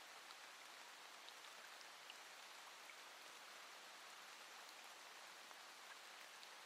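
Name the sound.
rain falling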